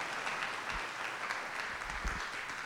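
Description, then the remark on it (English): An audience at Crossroads Church claps together as an offering of praise for the life of Ate Lita Godoy, a steady, dense wash of applause that holds at an even level throughout, with a few soft low thumps underneath and no one speaking. “Can we give God bless the best clap offering of praise for Ate Lita's life?”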